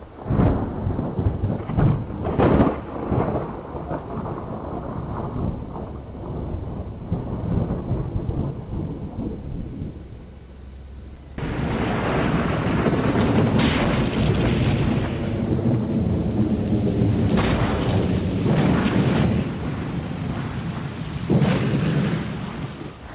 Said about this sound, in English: All the crew did know was that the ongoing storm was powerful enough to destroy their ship.